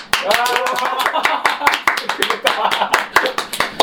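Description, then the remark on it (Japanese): A small group applauds to welcome Vegeta, with quick, irregular, sharp claps that keep going steadily for several seconds, while voices briefly cheer or call out over the beginning. “来たね、拍手。”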